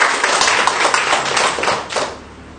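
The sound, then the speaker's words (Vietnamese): A crowd applauds steadily in celebration of the feast of Saint Bruno, dense overlapping claps forming a sustained wash of sound that holds at a fairly loud level before easing off slightly at the end, with no talking. “cùng hân hoan chúc mừng một tràng pháo tay thật lớn thôi chưa”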